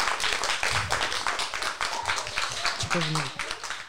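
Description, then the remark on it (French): A crowd at a youth tournament applauds the animators from Valmont steadily for several seconds, a dense wash of many hands clapping at once, with a few voices calling out over it toward the end. “Du coup, je pense que déjà on peut les applaudir.”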